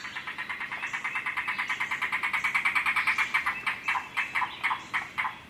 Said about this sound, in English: Unfortunately, over much of this bird's wide range, the voice of the yellow-billed cuckoo is heard less and less frequently.